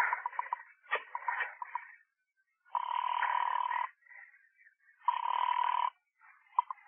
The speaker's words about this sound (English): For suddenly you see a solution. Pick up the phone and dial a number.